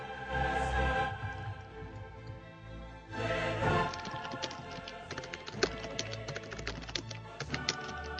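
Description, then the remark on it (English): Rapid, irregular keyboard clicks tap away, with a steady tonal hum underneath that swells briefly near the start before the quick typing carries through to the end. “typing really makes the whole thing.”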